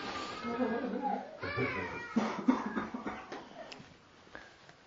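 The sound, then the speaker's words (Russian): A young child cries in drawn-out, wavering wails throughout, moderately loud, breaking into uneven sobbing bursts toward the middle before trailing off. “Есть у кого-нибудь ситхи успокоить ребенка?”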